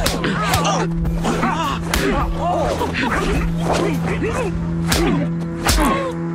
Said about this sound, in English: Oh, I just slapped you. Are you all right?